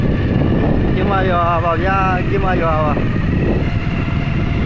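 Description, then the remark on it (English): A truck carrying passengers drives through the town of Khinmar in central Myanmar, its engine rumbling steadily and loudly throughout, with indistinct voices rising briefly over the engine noise. “A truck drives through the town of Khinmar in central Myanmar, and passengers witness the aftermath and devastation.”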